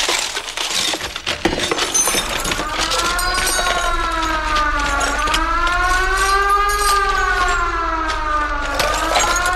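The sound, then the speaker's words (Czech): A loud alarm siren wails continuously, its pitch sweeping slowly up and down in long waves, after a brief burst of crashing and clattering at the start. “Poplach! Poplach, pane doktore!”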